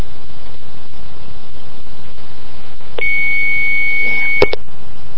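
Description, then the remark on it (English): Over a steady hiss of phone-line static, a call to a hotline number rings once for about a second and a half, then cuts off with a couple of sharp clicks and a short beep. “Well, I'm not sure what's up with that number now, because it's only ringing once.”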